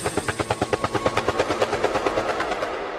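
A helicopter's rotor chops in a steady, rapid thudding rhythm, loud, with a continuous engine whine underneath and no voices.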